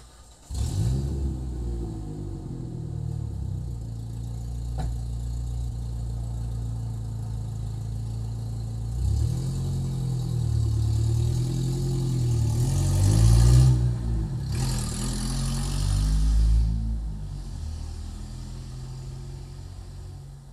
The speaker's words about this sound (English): let's just go see how the truck sounds. I was going to say that way you could have a pretty pleasant walk without worrying about being distorted, but let's see what the truck sounds like.